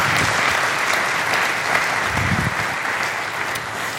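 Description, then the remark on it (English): A church audience claps together as a clap offering to the Lord: sustained, dense applause, a steady wash of many hands at a fairly loud level for the whole stretch, with no one speaking over it. “Clap offering to the Lord, please.”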